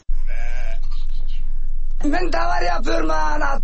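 sheep flock bleating

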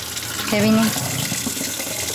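tap water running

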